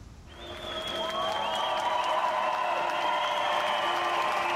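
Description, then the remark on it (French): At Munich railway station, a welcoming German crowd greeting arriving refugees claps steadily, with sustained cheering and whistling rising over the dense applause. It starts a little softer, then holds loud and even throughout. “À la gare de Munich, les réfugiés sont accueillis par une foule allemande accueillante.”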